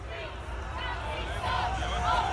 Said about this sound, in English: What you're hearing right now is the moment a small group of white nationalist protesters arrived in Scotland's capital this weekend, raising their arms in a fascist salute directed tauntingly towards the much larger crowd of counter-protesters